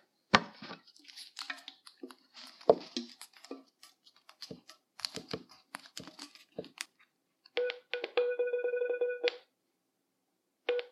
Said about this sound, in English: As I move the phone slowly, you can hear the beeps getting closer together and louder. The faster the beeps are together, the closer you are. And eventually, it recognizes the barcode and tries to process it.